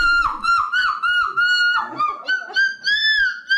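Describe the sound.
A contestant at the European Championship of seagull screaming imitates seagull cries: a rapid, unbroken series of loud, shrill, nasal squawks with wavering pitch, the last calls rising slightly higher and more drawn out.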